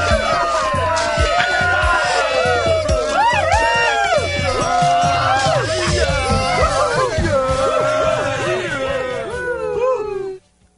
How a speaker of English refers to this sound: I like those like two really delayed woos at the end of that. Those are my favorite. The random clap. That's me. That's what makes it.